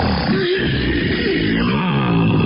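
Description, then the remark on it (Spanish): A grey wolf growls in a low, rough, continuous rumble that stays loud for a couple of seconds, with no talking over it. “Iba rodando y escapando cuando de pronto se encontró con un terrible lobo gris.”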